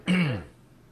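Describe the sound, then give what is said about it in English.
A single short, gruff throat clearing, from a tickle in the throat, that edges into a small cough, fairly loud, lasting under half a second before fading into quiet room tone. “I just have to cough aside here.”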